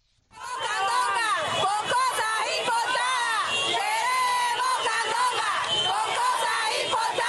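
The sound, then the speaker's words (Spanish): A loud crowd of many voices shouts in unison, continuously chanting rhythmic slogans such as "Queremos la candonga, queremos comercio", dense and energetic, at a street protest against restrictions on local markets in front of the Poder Popular government headquarters in Santa Clara. “Queremos la candonga, queremos comercio, se oye gritar a varias personas frente a la sede del gobierno del Poder Popular en Santa Clara en un video publicado en una cuenta de Facebook”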